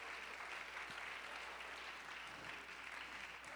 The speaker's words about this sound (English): Oh, let's clap our hands.